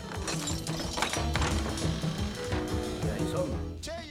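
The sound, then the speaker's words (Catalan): A padlock being unlocked on the wooden door of a long, run-down shed with a vaulted roof: a run of metallic clicks and ratcheting rattles, fairly loud and steady, over a sustained tonal bed, ending in a brief sharper scrape. “Ell obre el cadenat de la porta de fusta i entren a l'interior, ple de trastos, pols i teranyines.”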